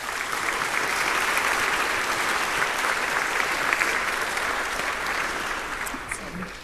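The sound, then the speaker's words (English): An audience at a conference claps steadily for the organizers for several seconds, a dense, sustained wash of applause at fairly even loudness that tapers slightly at the end. “So let's give our organizers a round of applause, too.”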